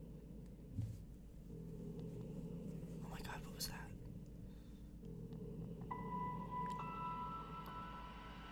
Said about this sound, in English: Scary Halloween music. Creepy music mix part one.